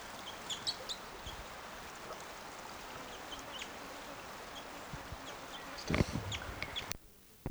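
bird, crossbill soft calls

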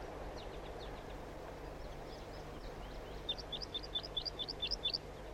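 bird, wild bird flight calls

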